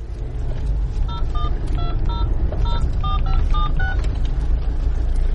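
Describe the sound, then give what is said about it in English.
A quick run of about a dozen short mobile phone keypad tones beeps out in an uneven rhythm while driving home, heard over a steady low rumble like a car engine, with no one speaking. “Thanking my usually quiescent lucky star for making me leave my mobile phone on.”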